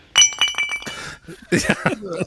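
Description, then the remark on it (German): Glasses clink and rattle as a table is cleared: a quick run of bright, ringing chinks, then a louder burst of clattering glass and tableware. “Es wird abgeräumt.”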